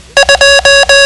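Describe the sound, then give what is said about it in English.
Morse code for the digit two: two short beeps followed by three long ones, a steady mid-pitched buzzy tone sounding loud and alone, with brief gaps between each. “The code for 2 sounds like this.”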